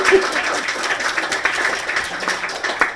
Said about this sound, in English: You guys clap too much.